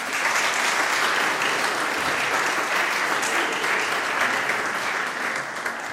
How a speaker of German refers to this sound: An dieser Stelle möchte ich noch mal den Teamerinnen und Teamern ganz herzlich danken, die uns ja an dieser Konfizeit begleitet haben, auch gestern da waren, heute da sind, mitgeholfen haben. Ich finde, das ist ein Applaus wert. Danke euch.